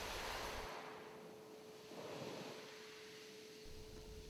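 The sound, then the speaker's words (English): Soft ocean waves wash in and out on a golden sandy shore in a slow, steady rhythm, a broad hiss of surf swelling and easing with a faint sea breeze, heard alone without voices. “You hear the gentle and rhythmic sounds they make.”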